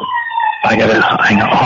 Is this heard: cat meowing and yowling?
no